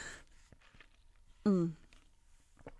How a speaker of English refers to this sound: I'll just take a sip of water.